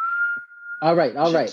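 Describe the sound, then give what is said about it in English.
A thin, steady whistle held for nearly a second, a voice imitating air hissing through the gap of a woman's missing canine tooth as she smiles or talks, then broken into by a burst of loud, harmonic vocalizing. “When she smile, when she talk, it whistles.”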